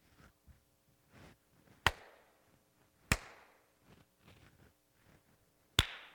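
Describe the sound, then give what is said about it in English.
One person claps by hand to show how the sound carries through the building: three sharp, loud claps at uneven intervals, each followed by a lingering echo that rings through the building before fading, with faint low murmuring in between. “I was over here this morning and I was walking around and I clapped here. And here it goes all the way through the building.”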